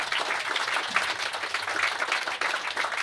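An audience applauds steadily for a speaker at the end of a talk, a dense wash of many hands clapping at once with no pauses, sustained at an even, fairly loud level for a few seconds.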